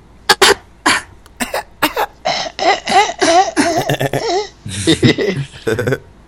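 A close, loud coughing fit: several sharp hacking coughs in quick succession, then a longer run of strained, wheezy coughing mixed with laughter-like voiced breaths.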